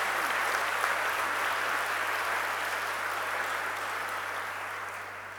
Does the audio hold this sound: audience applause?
yes